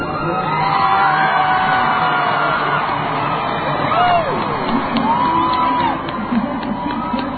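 A large crowd standing on Pennsylvania Avenue at the presidential inauguration, reacting to what it hears over loudspeakers at 12:04 Eastern Time, cheers steadily, with rising whoops and shouts breaking out over a dense, continuous roar of voices. The noise holds loud throughout, easing slightly near the end.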